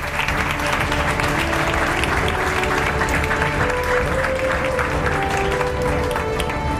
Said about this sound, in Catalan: Un aplaudiment per les dues, sisplau.